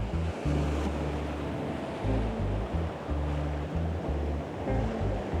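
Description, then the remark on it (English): Ocean surf rushes and washes continuously as someone steps into the water to go surfing, a steady broad hiss of breaking water over a low, pulsing rumble, with some wind buffeting in the background and no voices. “Going surfing, again, right then and there. Stepping into the water here.”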